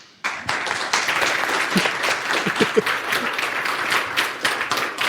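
An audience breaks into sustained applause after a talk about NixOS and Tailscale, dense overlapping clapping that starts abruptly and holds at a steady, fairly loud level for several seconds, with a few faint voices mixed in.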